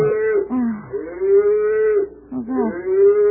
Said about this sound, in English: That sounds like a cow mooing. Yeah, how could it be a cow? Well, I don't know. It certainly sounded like one. Darling, in the middle of a residential district, we must be miles from a farm.